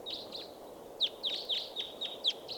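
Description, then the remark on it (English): A flock of wild birds chirps in quick, high-pitched overlapping calls, about eight sharp notes in under three seconds, over a low steady background hum. “Bunch of birds here.”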